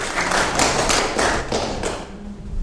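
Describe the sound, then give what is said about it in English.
An audience applauds the children and their leaders, many hands clapping together in a dense, steady patter that holds for a couple of seconds and then thins out and fades toward the end. No one speaks. “Round of applause for our children and our leaders.”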